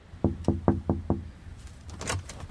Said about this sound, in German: Da die Klingel kaputt ist, muss angeklopft werden.